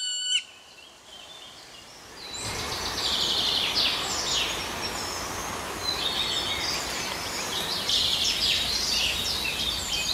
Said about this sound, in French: Pour moi, c'est le pic noir, parce que j'adore la forêt et c'est un oiseau très particulier qui aime les êtres très gros et très matures, on appelle ça. Et donc pour moi, c'est symbole d'une forêt âgée.